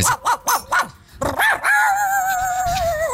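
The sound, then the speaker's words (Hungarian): A man from America imitates a dog with his voice, giving a quick run of four sharp barks, then a couple more, before sliding into a sustained, whining growl-like howl, loud with no other talk. “Tudod, fölvették, hogy tud különböző kutyahangokat utánozni.”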